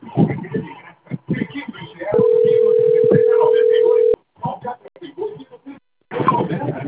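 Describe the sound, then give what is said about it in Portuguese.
A steady electronic telephone tone sounds for about two seconds, loud, with people talking before, during and after it; the phone keeps ringing again and again. “Porra, chato pra caramba o telefone aí, fica ligando toda hora.”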